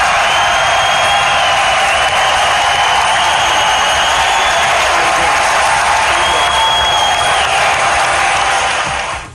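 A large crowd at a draft in Philadelphia roars and cheers continuously at full volume as Derek Barnett, the 14th pick, walks down to hug the commissioner; a dense wall of voices and whoops that stays loud throughout before cutting off at the end.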